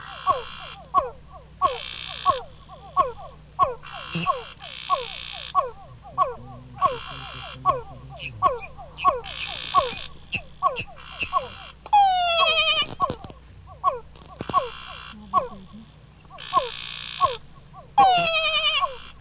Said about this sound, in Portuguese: Então, na verdade, eles cantam em coro, como a gente chama, né? Eles cantam mais ou menos junto, só que alternando. Vamos ouvir então o som de um coral desse, especialmente para os ouvintes, um coral de sapos aqui da Unicamp.